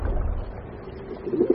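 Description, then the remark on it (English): Pigeons coo softly, a few low, throaty calls building toward the end, set against a steady low rumble of river water, as pigeons bathe in the river in Albi in the south of France. No one speaks. “Here in Albi in the south of France, the pigeons come to the river to bathe.”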